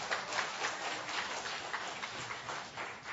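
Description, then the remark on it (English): A church audience applauds in appreciation during a service, many hands clapping in a dense, steady crackle that holds evenly for a few seconds with no voices over it. “It's awfully easy to applaud. Anybody can clap.”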